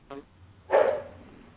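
A dog barks twice: a short, faint yip first, then a loud, sharp bark that trails off quickly, with quiet hum underneath and no talking.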